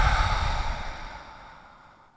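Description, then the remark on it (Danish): Audible breathing with no talking during a guided breathing exercise: after a breath in through the nose and an extra inhale, a soft, airy exhale is let go and gradually fades out over about two seconds. “Så du trækker vejret ind gennem næsen. Og en ekstra indånding. Og giver slip på udåndingen.”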